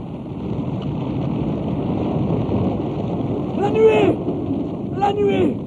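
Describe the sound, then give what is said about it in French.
A steady wash of heavy rain and low rumbling thunder from a storm with lightning fills the scene, the rain turning the sea bed to mud, with two short wavering cries or shouts rising briefly near the end. “La nuée jette des éclairs. La pluie a transformé en bourbier le lit de la mer.”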